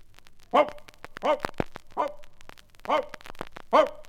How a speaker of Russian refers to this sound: Вот лает она и лает, а крестьянин ей и говорит.